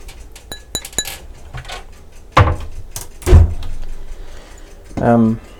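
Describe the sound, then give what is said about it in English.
Bright glass clinks and taps as a drinking glass is taken from an overhead cupboard and handled, mixed with a couple of heavier knocks like a cupboard door, and a brief vocal sound near the end. “I'll grab a glass out of the overhead on cupboard.”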